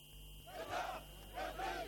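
crowd cheering

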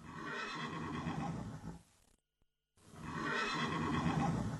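horse neighing

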